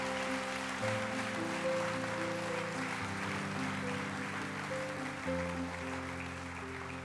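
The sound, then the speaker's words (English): An audience stands and claps steadily for the Lord for several seconds, a dense, continuous wash of hand clapping over sustained organ-like chords that shift pitch now and then, with no one speaking. “Come on, let's give the Lord a hand clap if we're going to clap.”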